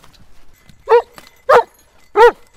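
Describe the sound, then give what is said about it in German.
A search dog in forest training barks three times in a steady rhythm to indicate a found person, each bark loud and sharp, separated by brief pauses with no talking in between. “Wenn die Hunde den Ablauf richtig befolgen, heißt in den Wald rennen, nach der richtigen Fährte schnüffeln und den gefundenen Menschen mit Bellen anzeigen”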